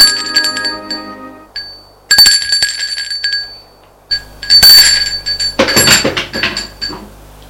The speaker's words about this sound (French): 1 heure plus tard, on sonne à la porte de l'appartement.